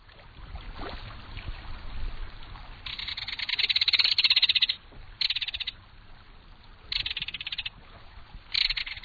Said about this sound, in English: There's no other sound along a stream or waterway quite like the reverberating metallic call of a belted kingfisher.